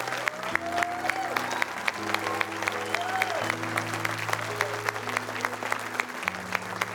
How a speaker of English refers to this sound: Let me not freak you out, but let me just help you understand. The reason we clap is that is our attempt to show you what heaven is doing right now.